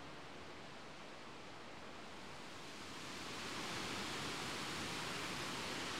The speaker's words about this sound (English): I'm just pausing to catch my breath, because once again, as we're leaving the river behind, here at Hackfall, the only way is up, as we follow another stream with a series of cascading waterfalls heading in the opposite direction to me